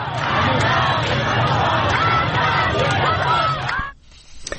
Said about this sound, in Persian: رمزی که شاید در فریادهای این زنان و مردان معترض تفسیر شود.